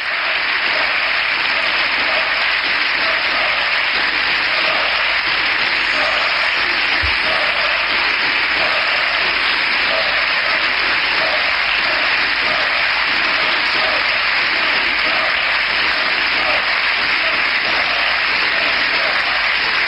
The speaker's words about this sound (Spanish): gritos de dimisión por parte de la bancada popular que intentan ser contrarrestados por los aplausos del Grupo Socialista.